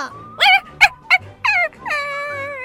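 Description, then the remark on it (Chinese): A dog named Wangwang whimpers: a few short, high whining cries in quick succession, then a longer, drawn-out plaintive whine that trails off, with no one speaking. “汪汪，你终于回来了，你刚刚去哪里呀？害我担心了一下，真是的。”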